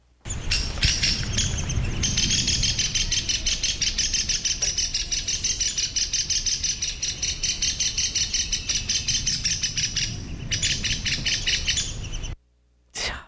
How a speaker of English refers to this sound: We are going to listen to the alarm call of the downy woodpecker, which is relatively common. So keep an ear up.